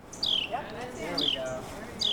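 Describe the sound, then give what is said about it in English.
A bird sings three bright, high whistles that slide downward, spaced about a second apart, with softer warbling notes in between against a faint background hiss. “Humans aren't the only one listening to this library of bird songs.”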